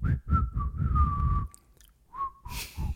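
A clear whistled melody of sustained and gliding notes floats over a thumping low-end musical backing, pausing briefly midway before a few more whistled phrases return with brighter percussion.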